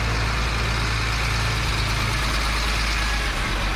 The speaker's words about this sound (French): Gros camions de transport sur la frontière avec la RDC poussent les quelques handicapés burundais et congolais à se déplacer dans un autre endroit